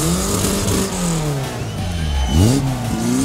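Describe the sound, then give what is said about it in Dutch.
A car engine revs and accelerates, its pitch dipping then rising sharply as it pulls away, loud and steady throughout with no talking. The car is carrying people seated on its roof into RSG De Borgen school in Leek. “Wij mogen op het dak zitten en op een auto naar binnen gebracht worden.”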